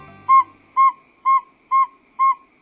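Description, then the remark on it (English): A northern saw-whet owl gives a steady series of loud, clear, whistled toots on one mid-high pitch, about two per second, with nothing else sounding between the notes. “Northern saw-whet owls reveal we have much to learn about the world of birds.”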